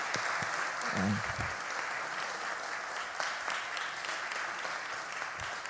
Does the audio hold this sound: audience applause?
yes